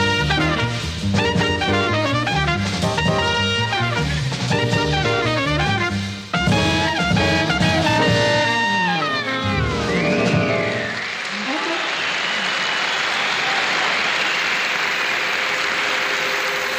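A jazz band plays a lively, horn-led passage that ends with a final chord, then a concert audience bursts into loud, sustained applause that fills the last several seconds.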